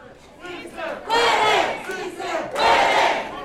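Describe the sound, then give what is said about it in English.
A large crowd at a Culinary Workers Union rally in Las Vegas, Nevada, on the morning of Election Day cheers and shouts loudly in two big surging waves, voices blending into a roaring chant-like swell with brief dips between bursts. “Catherine Cortez Masto addressed the crowd.”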